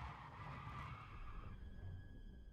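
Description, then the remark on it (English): Tires screech as a car skids through a sharp turn while turning around. The squeal is steady for about a second and a half, then fades to a thin whine over a low engine rumble. “Mom, turn the car around!”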